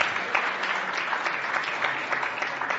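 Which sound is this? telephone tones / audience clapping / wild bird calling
audience clapping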